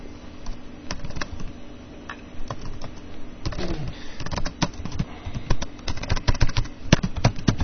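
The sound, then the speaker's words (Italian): Clatter of someone typing on a computer keyboard, with irregular bursts of sharp key clicks that grow busier and louder toward the end over a faint steady hum. “Perché la tastiera non scrive?”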